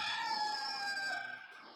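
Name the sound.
rooster crowing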